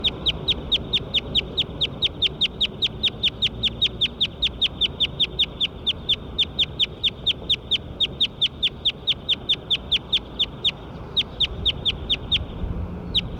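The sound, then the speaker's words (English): A recording of bird 9: a bird call repeats as a rapid, even string of sharp, high-pitched chips, roughly four per second, continuing unbroken for over ten seconds above a low background hum, with no talking. “Recording bird 9 again.”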